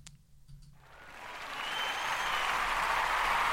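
sound effect, applause sound effect

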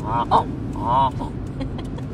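bird, flock of geese honking

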